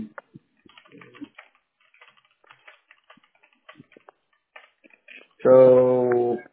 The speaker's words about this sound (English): I'm clicking in right now. I'm clicking on it.